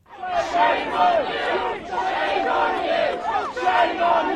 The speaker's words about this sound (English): As each protester was walked or carried away by police from Parliament Square, the crowds chanted and clapped.